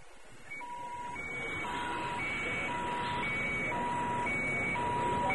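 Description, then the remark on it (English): Warbling all-clear sirens steadily alternate between a lower and a higher electronic tone over a low, continuous rumble, with no one speaking. “Warbling sirens signaled an all-clear as C-3PO hurried past the open-air launch pads of Ord Mantell's primary spaceport.”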